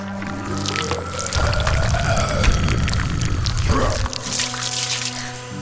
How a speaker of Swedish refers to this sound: Kan du krama vatten ur en sten? Så här...